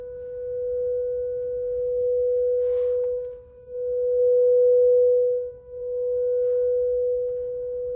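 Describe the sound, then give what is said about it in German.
An electric Enyaq's reversing whistle after the car is switched on and put into reverse: one steady, sustained tone that drones without a break, dipping briefly twice, over a low rumble, with a single short click early on. No one speaks. “Nach dem Einkauf wollte ich nach Hause, ich schalte den Enyaq ein und in den Rückwärtsgang und dann ertönte dieses Geräusch.”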